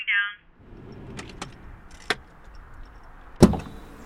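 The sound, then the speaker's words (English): A car pulls in and is put in park: it idles with a low rumble after a short electronic chime, a few light mechanical clicks follow, then a car door shuts with a solid thud. “Okay, I'm pulling in.”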